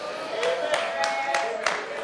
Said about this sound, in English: Well, you didn't clap your hands too loud on that, but it's the truth anyhow.